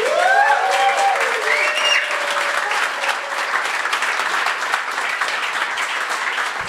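A full-house live audience at a stage show in Berlin bursts into loud, sustained applause, dense clapping with a few whoops and cheers rising in the first couple of seconds before settling into steady clapping.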